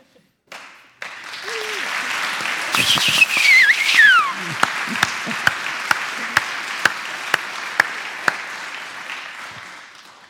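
A crowd at a church baptism breaks into sustained applause, with sharp whistles cutting through the clapping early on and a few loud, evenly spaced claps standing out as it continues.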